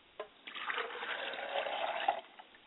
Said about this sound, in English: I pour a glass of water for my mother's spirit, and I said, Mother, drink well, and please join us this evening.